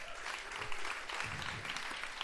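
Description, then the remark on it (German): An audience at a live poetry event applauds a poet's rhyme, a dense crackle of many hands clapping at an even level throughout, with no one speaking. “Wie viel Applaus würdet ihr dafür geben?”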